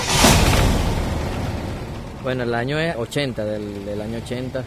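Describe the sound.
A big V8 car engine fires up with a loud, close roar that gradually settles into a rumble, then a man starts talking over it.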